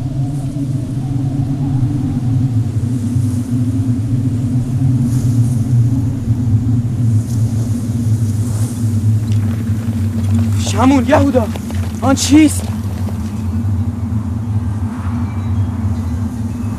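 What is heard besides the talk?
storm rumbling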